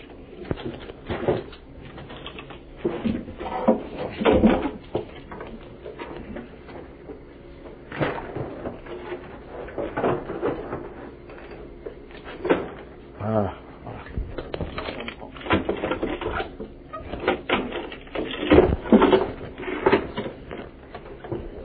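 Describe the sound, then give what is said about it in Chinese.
Two chairs are shifted into place underneath, with scattered clunks and scrapes at irregular intervals, while voices murmur. “可以不可以把两个椅子放在这个下面？”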